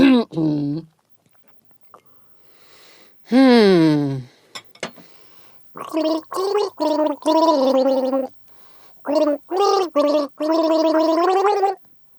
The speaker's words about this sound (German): Was für ein gemeines Gurgeln. Gurgelwurgel. Warum macht man das auch immer so hoch? Du bist so hoch, hast du hoch eingesetzt, oder?